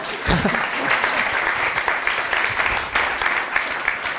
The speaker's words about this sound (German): Ach, ihr wolltet wieder klatschen, sorry.